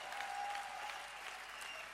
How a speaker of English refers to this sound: Come on, clap your hands for the Lord.